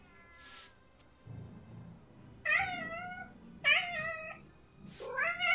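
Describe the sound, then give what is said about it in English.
A cat meows three times, loud, each call a drawn-out wavering yowl, with short hissing bursts of noise near the start and just before the last meow. “Animal possession. A trick. Meow. I'll distract him.”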